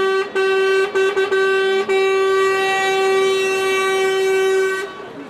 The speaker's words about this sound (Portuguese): As constantes buzinadelas são sinais de apoio e mostram que as vozes de descontentamento são mais do que aquelas que estão, de dia e de noite, nas estradas e rotundas em protesto.